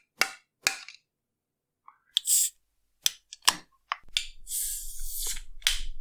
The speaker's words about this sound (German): Profi-Tipp, bei der geschüttelten Dose immer mal so dagegen schlagen, dass sich die Kohlensäure nach oben bewegt. Und ich hoffe mal, es spritzt jetzt nicht. Die John Dorian Dreimal Klopftechnik.